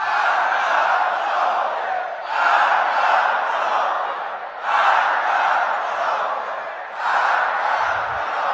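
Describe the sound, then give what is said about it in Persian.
A large crowd chants the slogan "Death to the hypocrite" (marg bar monafegh) in unison, loud and steady, with the phrase repeating in about four rhythmic waves separated by brief dips between repetitions. “مرگ بر تو باد که خدا در سوره منافقین مرگ بر تو رو فریاد زده و این مردم مرگ بر منافق رو مقصودشون شما هستید.”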